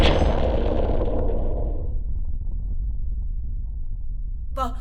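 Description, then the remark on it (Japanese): A loud explosion bursts out at once, its bright crack dying away within a couple of seconds into a long, deep, steady rumble, with a brief higher tone cutting in at the very end. “爆発音です。”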